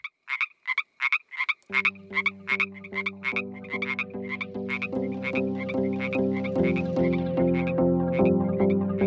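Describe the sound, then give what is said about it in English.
An American bullfrog croaks in deep, droning, pulsing calls that begin after a moment and continue steadily, layered over a rapid series of sharper, higher-pitched frog calls, fairly loud. “Don't transport and release bullfrogs.”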